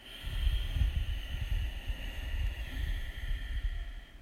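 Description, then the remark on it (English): Ujjayi breathing: a soft, steady ocean-like rasp of breath drawn through a constricted throat, continuous, with a faint snore-like texture and no talking. “that is the soft snoring ujjayi breath”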